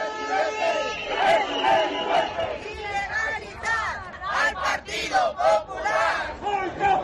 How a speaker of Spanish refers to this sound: A la vuelta de la esquina, algo más de un centenar de manifestantes se esforzaba por hacerse oír.